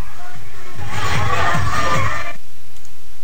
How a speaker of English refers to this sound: Women cheering.